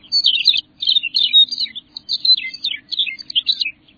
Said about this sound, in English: For now, winter reigns over Montana's grasslands. June may seem distant, but hearing the bird songs makes you know it's worth the wait.